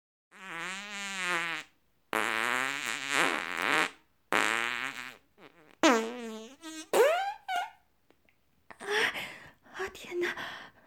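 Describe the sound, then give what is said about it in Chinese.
A string of long, buzzing fart sounds, about five in a row, loud, each one stretching and wavering in pitch, with the last few turning breathier and more sputtering. “我闺蜜说的没错，我和臭鼬一样，放屁臭死别人才是我最喜欢的事儿。”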